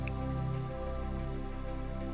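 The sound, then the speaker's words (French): Steady, continuous rush of falling water, like a waterfall, with a soft, even wash of splashing that holds level throughout and no voices. “Alors prenez le temps d'écouter la cascade,”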